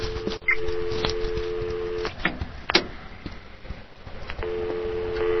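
A steady telephone tone hums, breaks off for a stretch of clicks and short electronic beeps as a 1-800 number is dialed to call Nintendo, then returns near the end. No one speaks.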